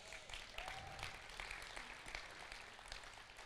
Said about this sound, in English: And by this point, you should be clapping.